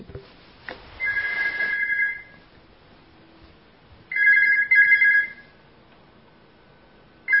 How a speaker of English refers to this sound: I'm just going to stop that phone just for a second.